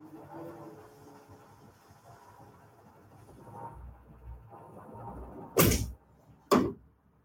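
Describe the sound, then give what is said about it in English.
A door is shut with two loud, sharp thuds in quick succession near the end, following several seconds of quiet, low background rumble with no talking; the door is closed to keep out construction noise from a hotel undergoing construction in Irvine. “can I check out and go close the door real quick?”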